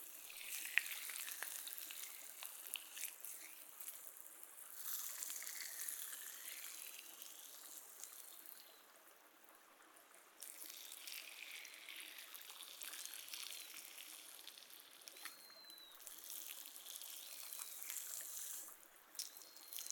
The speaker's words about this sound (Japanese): シュワーっと、いい音がしますね。この泡は炭酸水で作ってるんですよ。